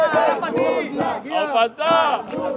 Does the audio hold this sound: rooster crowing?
no